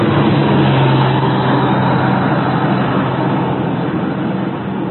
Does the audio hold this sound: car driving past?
yes